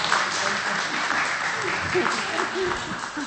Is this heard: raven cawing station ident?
no